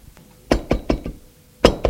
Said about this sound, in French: On a frappé à la porte.